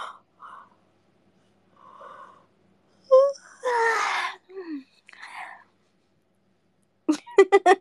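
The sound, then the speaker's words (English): Someone gives a long, breathy yawn with a voiced, groaning rise, set among soft whispered murmurs and followed by a quick series of short, rhythmic vocal bursts. “And I want to yawn again.”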